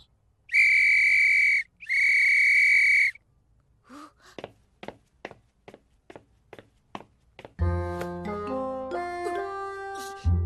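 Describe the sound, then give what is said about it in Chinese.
Two long, loud blasts of a whistle in quick succession, followed by a series of light tapping footsteps and then a burst of bright music. “只要听到哨子声，你的失误不管在什么地方都会回来的。”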